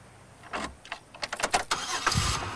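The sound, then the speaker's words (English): A car's ignition is turned on and the engine cranks in a quick series of rough, stuttering bursts, then catches and roars into a steady running rumble. No voices are heard. “Turn on ignition.”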